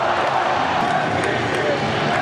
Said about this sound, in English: Chanting MVP now, the Yankee Stadium crowd.